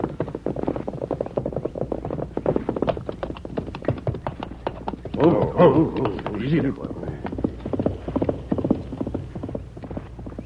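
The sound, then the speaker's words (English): Horse hooves gallop in a fast, steady drumming that fills the whole stretch, fairly loud, with a brief burst of voices rising over the hoofbeats midway; a rider is coming at a gallop beyond the bend. “Someone's coming at a gallop beyond the bend.”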